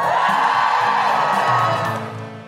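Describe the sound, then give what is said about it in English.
An audience at a live show of The Guilty Feminist in Bath cheers loudly with whoops and yells, a dense sustained roar of many voices that holds steady for about two seconds before starting to fade. “Give us a cheer if you listen to the podcast at home.”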